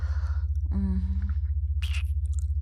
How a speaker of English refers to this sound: Feel me tongue the slit of your cock now, and start to lick the head. Slurping at it, and making it extra wet.